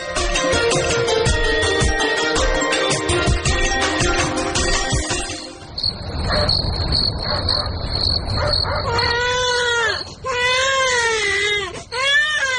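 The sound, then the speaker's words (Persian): Music plays at first, then a thin high chirping drone takes over, and near the end a baby who has been sick for several days cries loudly in several rising-and-falling wails. “او مردکن چند روز میشه که بچه مریضه، سبا پیش دکتر ببرش.”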